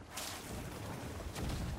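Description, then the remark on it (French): Two booming video game cannon shots in a ship battle, roughly a second apart, each a broad muffled blast with a low rumbling tail, heard alone. “Pas fan de ce canon là, vraiment on voit pas très bien les distances.”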